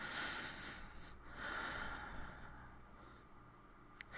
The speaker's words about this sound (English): Your breathing is ragged.